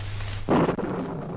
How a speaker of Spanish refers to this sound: ¿Qué ha sido eso? ¡Qué trueno! Pero si hace una noche espléndida.